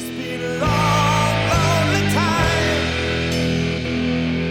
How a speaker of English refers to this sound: It's got a different low end to the rest of the album. It's bigger, crashier, mushier. We all love this song, although we don't play it. There you can hear those kick drums.